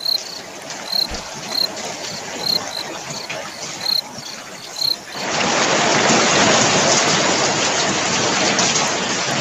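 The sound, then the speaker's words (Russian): Crickets chirp in a steady rhythm over a soft hiss, then a loud, dense wash of rain that has just started falling outside abruptly takes over and continues evenly to the end. No one speaks. “Ты знаешь, на самом деле, у нас здесь пошел дождь.”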